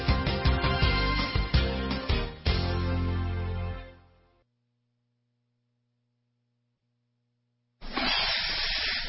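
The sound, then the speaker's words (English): A loud, steady hiss of air and water escaping an RV's vent pipe, its freshwater tank overflowing into the black tank and backing up into the vent pipe, bursts in near the end, after a musical passage fades out and a few seconds of near-silence with faint hum. “That's the Sullivan's RV freshwater tank overflowing into their black one, which is backing into their vent pipe, making for a very different kind of attack.”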